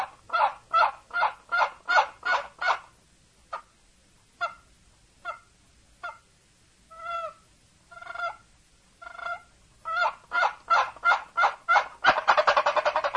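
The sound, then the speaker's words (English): An imitated tom turkey gobble, the gobbler's answer to a hen call in turkey hunting: fast, rattling bursts of notes, then scattered single calls, then another rapid run that swells loud at the end. Clear, with no talking. “She says, well, we're not after the hen turkey, we're after the gobbler. And he answers back in this romantic tone, something kind of like this.”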